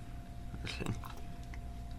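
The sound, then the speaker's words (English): A bite into a chocolate-covered cookie dough treat, a brief cluster of soft, light crunches followed by quiet, muffled chewing. No one speaks. “So go ahead and hear how it kind of crunches just a little bit.”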